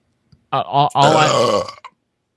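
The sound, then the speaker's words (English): A loud burp that lasts over a second, starting with a short gulp and breaking into a long, drawn-out rumble before cutting off into silence. “If you're going to burp, at least make it a good one for Raphael.”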